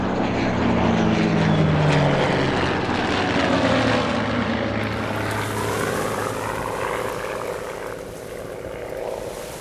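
A propeller airplane drones loudly and steadily overhead, its engine roar filling the whole stretch, with the pitch sagging slightly early on as it passes.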